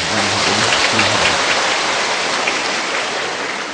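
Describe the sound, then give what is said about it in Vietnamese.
A crowd of Buddhist followers at a Buddhist chanting retreat applauds in honor of the Most Venerable, in a dense, steady roar of many hands clapping at once, loud and sustained for several seconds before easing slightly, with no voices over it. “Xin giờ này chúng ta cũng hoan hỷ trân trọng cái công đức, cái ân đức của Hòa Thượng, một tràng pháo tay.”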